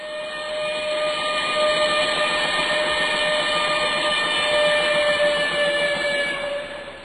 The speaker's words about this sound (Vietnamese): Xe lửa Sài Gòn xuống, đậu rồi chạy đi. Cách một lát, xe lửa Mỹ Tho cũng lên đậu rồi chạy đi.